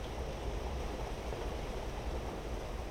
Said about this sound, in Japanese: 家の中で聞く雨の音、いいですよね。